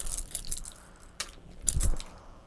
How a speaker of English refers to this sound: Ah, measuring cups. I guess measuring spoons, that's cool. They make a sound. Keys make that sound too. Yeah, look at that.